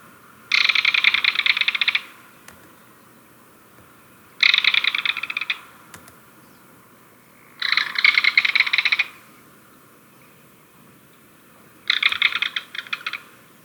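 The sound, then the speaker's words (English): A belted kingfisher gives four loud, dry, rattling calls, each a rapid chatter lasting about a second or two, separated by short pauses, over a faint background hiss. “And our mystery bird was the belted kingfisher.”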